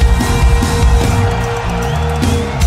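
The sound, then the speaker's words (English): An audience yells together on a count of three, in one sustained, loud burst of mixed voices that holds steady for a few seconds without easing off. “Let me hear you guys. One, two, three, yell!”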